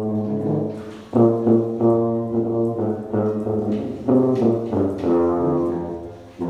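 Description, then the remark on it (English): Low, warm tuba tones play a slow Christmas carol melody, with sustained notes stepping from one to the next and brief breaths between phrases. No one speaks. “you know, dress up in full regalia and put Christmas lights on our tuba and kind of deck them out.”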